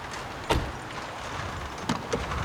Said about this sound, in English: The taxi driver opens the car boot.